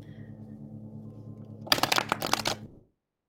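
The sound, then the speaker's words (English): A deck of cards is riffle-shuffled in a quick, crisp burst of fluttering snaps lasting about a second, after a low steady hum. No one speaks. “So I will shuffle.”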